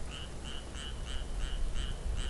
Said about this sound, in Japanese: そうだそうだとカエルも言っております。